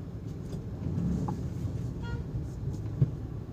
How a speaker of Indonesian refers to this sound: Habis sholat Jumat, baru pulang dari sholat Jumat. Dan ini depan masjidnya macet. Ya ampun, sudah 15 menit ini masih apa ya?